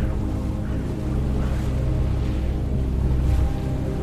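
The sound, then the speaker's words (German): The engine of a polished wooden motorboat with light leather seats hums low and steady as the boat slowly casts off from the harbour of Lazise, heading for Sirmione; a soft continuous drone with faint splashing and wind around it, no voices. “Der Motor brummt leise, als du einsteigst.”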